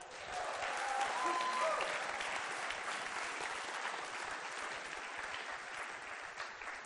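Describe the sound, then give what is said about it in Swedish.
An audience bursts into sustained applause, a dense wash of clapping that stays loud and steady for several seconds, with a few faint cheers or whistles mixed in near the start. “Får vi en applåd för det?”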